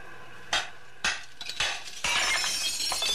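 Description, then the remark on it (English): Window glass is smashed with a rock to get into a factory: several sharp crashes about half a second apart, then a sustained bright tinkling as shards fall and scatter. No voices. “You going to crawl through that hole in the window?”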